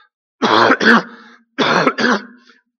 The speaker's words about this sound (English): I'll get rid of this cough in a minute.